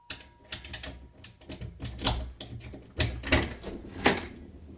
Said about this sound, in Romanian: Ia, stați, parcă a sunat cineva la ușă. Deschid eu.